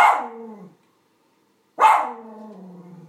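animal, dog barking

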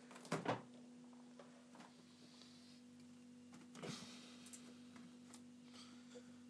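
household object, fridge door being opened

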